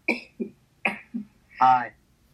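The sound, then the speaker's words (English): A few abrupt, sharp bursts of sneezing, spaced about every half second and fairly loud, during a city council roll-call vote, followed by a brief voiced sound from someone speaking. “Bless you”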